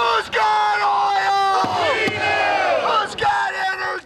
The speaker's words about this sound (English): The rally leaders marched around a one-block area carrying a coffin that they said represented the victims of Outer Continental Shelf drilling delays. The chanting was led by members of the local Labor's International Union.